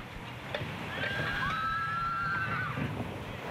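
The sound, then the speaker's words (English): A horse lets out one drawn-out whinny lasting a couple of seconds, its high wavering call rising and falling over a low, steady background rumble. “Do you like horses? Yes, I only like horses. Come see the horses now.”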